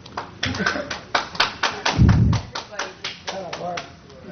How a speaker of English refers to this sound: Yeah, folks, I've asked you numerous times to please refrain from clapping.